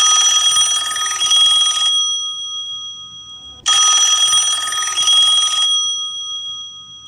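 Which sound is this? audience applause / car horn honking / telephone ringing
telephone ringing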